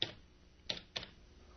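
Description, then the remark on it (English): Three sharp key clicks on a keyboard, spaced unevenly with slow pauses between them, as someone types slowly with one finger. The taps are fairly quiet, with no voices. “Yeah, you type good, though, man, compared to me. I'm really, like, see, you can hear this. I'm really slow.”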